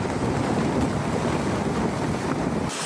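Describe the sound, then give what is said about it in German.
The Greenpeace ship Arctic Sunrise moves steadily across Arctic Ocean waves, heard from its deck, a continuous loud rush of water and engine drone with wind buffeting the microphone, cutting off abruptly at the end. “Gemeinsam reisen wir durchs Eismeer der Arktis.”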